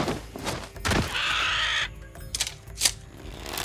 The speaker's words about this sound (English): It was a massive vulture. His feathers were a mixture of gold and blue, his wingspan blocking out the sun overhead. The vulture landed right in their path.